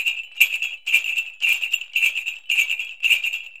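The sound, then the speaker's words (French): Jingle bells shaken in a steady rhythm, about seven bright jangling bursts roughly every half second, clear with no voices. “Grelot.”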